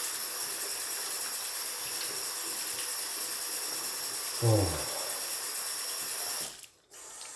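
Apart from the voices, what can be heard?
water running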